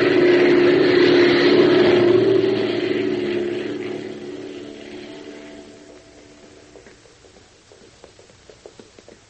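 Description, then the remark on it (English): A propeller airplane's engine drones loudly at first, then steadily winds down and fades as it comes in to land on a camouflaged landing strip, leaving faint scattered clicks and rattles at the end. “That's the landing strip. They're peeling off the camouflage. Watch it. We're going in.”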